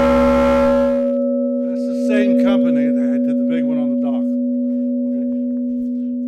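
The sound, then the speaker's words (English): A riverboat bell once carried on boats up and down the Ohio River is clanged once, a single heavy clang that rings on as a steady, low humming tone for several seconds, while a man talks over the fading resonance. “This one over here, I'll clang it once.”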